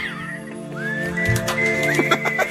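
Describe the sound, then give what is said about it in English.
A person whistles a brief, sliding melodic phrase, the clear pitched notes rising and dipping over a steady low background hum, with no talking. “At the beginning of this, I'm going to do this cool little whistle that I've been whistling.”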